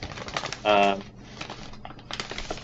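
Loud crinkling of a paper bag as sweets shift inside it, an irregular string of sharp rustles and crackles with a brief louder burst partway through.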